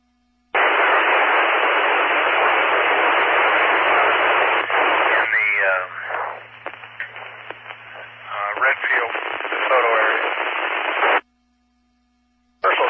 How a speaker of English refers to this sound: Station transmitting, I couldn't get you above the static.